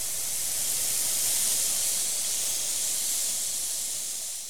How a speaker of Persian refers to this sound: بابا بزرگم جیغ کشید و از دهان شعله های آتیش بیرون اومد و کیک رو آتیش زد. در همون لحظه عمه سارا با خورتوم پر از آبش اومد و آتیش رو خاموش کرد.